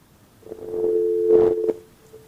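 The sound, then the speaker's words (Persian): A steady electronic phone-line tone hums for about a second and a half after a listener's call to a phone-in program drops, fairly loud and continuous, with a few soft clicks and bursts of noise around it and no one speaking. “بله، خب تلفنشان قطع شد.”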